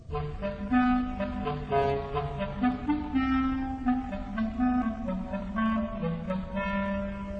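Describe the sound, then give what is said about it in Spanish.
Low, reedy clarinet notes play a slow, sneaking melody representing the cat in an orchestral tale where each character is an instrument, each tone smooth and sustained with soft orchestral support underneath; no one speaks. “Gato, por el clarinete en las notas graves.”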